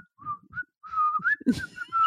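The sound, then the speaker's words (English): A man whistles a short, wandering tune around the house, the clear pitched notes sliding and rising in quick phrases with small breathy gaps between them. “But yes, your husband angry whistles around the house”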